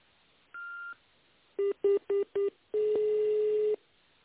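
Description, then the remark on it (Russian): Telephone keypad tones dialing an employee's extension after the automated phone greeting of the company Neftegazinvest: a single higher beep, then four quick, evenly spaced lower key tones, ending in a longer steady tone. No one speaks. “Наберите внутренний номер сотрудника или дождитесь ответа секретаря.”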